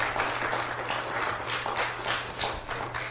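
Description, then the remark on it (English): A crowd gives the evening's speaker a hand, applauding steadily in a dense wash of many overlapping claps with no break, holding an even loudness throughout, with a faint low hum running underneath. “Chris Pinto, give him a hand tonight.”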